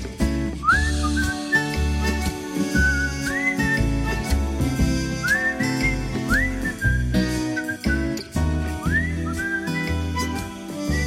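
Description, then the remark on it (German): A bright whistled melody with rising, gliding notes rides over a full instrumental backing with steady bass and percussion, loud and upbeat throughout, with no voices, played on the Swiss radio station SRF Musikwelle on Saturday, 31 May. “Pfeifend unterwegs in dem Samstag in der 31. Mai, das ist die SRF Musikwelle.”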